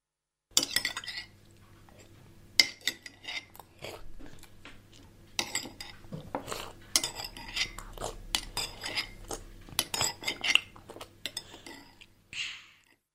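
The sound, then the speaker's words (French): Cutlery scrapes and clinks against dishes in a steady, irregular clatter as a person eats breakfast, mixed with some crunchy chewing. No one speaks. “Il prend son petit-déj.”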